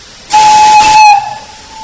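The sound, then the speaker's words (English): A steam locomotive whistle, blown from the front of the cab, gives one loud, steady blast with a strong hiss of steam around it, then cuts off and fades into quiet. “Where's your whistle? We two on the whistle, sitting up here in the front of the cab.”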